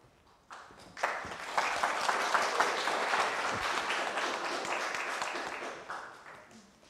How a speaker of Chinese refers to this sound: 我忘记了，你们的拍手吓了我一跳，所以忘记这个很重要的事。